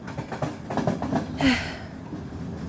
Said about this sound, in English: Should be easy enough to get some sleep tonight with the rest of this train car so empty. We seriously lucked out.